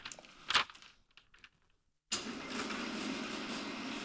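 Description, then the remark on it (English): An eraser rubs out a straight pencil line drawn on paper for a Penrose diagram of a black hole, first in a few short scratchy strokes, then after a brief pause a steady, continuous scrubbing. No one speaks. “And now I basically rub that out.”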